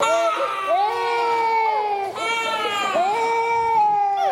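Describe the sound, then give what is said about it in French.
Young children cry and sob loudly and continuously at a nursery school as new pupils arrive, with long wailing, rising and falling pitches, overlapping voices and a brief catch for breath midway. “Ces cris et pleurs des enfants sont familiers aux oreilles des moniteurs et nounous, témoigne-t-il.”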